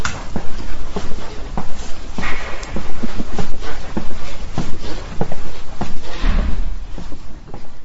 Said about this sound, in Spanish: Pero entremos ahora al interior del edificio por la puerta de seguridad, para la cual hay que disponer de un chip especial.